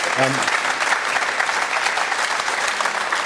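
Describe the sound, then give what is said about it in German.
A crowd claps steadily in a dense, even wash of applause that holds at a constant level, with a brief tonal voice sound at the very start. “Aber wo, ja, wer klatschen will, gerne.”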